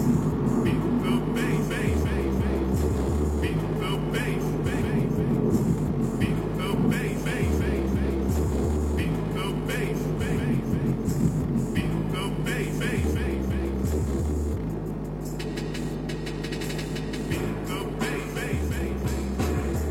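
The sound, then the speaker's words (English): Heavy, booming bass music throbs loudly inside a car, its deep notes shifting in a steady rhythmic pattern with a muffled, rattling low end filling the whole cabin. “I have to turn that down. It's going to fucking break my car.”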